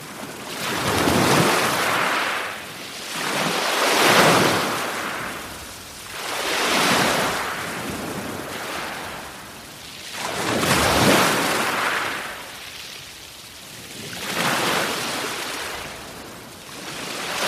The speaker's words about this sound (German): Ja, ein Meeresrauschen kann ja viel bedeuten.